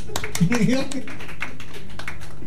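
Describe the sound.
A few people clap their hands for themselves in a quick, uneven patter of sharp slaps that runs for a couple of seconds, with a voice briefly heard over the start.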